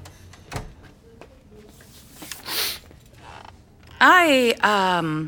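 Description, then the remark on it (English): A door creaks shut, a loud, drawn-out squeal of hinges in two wavering pulls near the end, after a stretch of quiet shuffling and a soft thump, as a student shuts the door at a school principal's request. “Come in, Patrick. Shut the door, please.”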